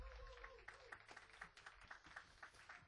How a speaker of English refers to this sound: By the way, a round of applause for Mark Mancini on the keyboard.